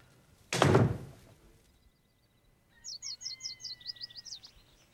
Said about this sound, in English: He shuts the cupboard door.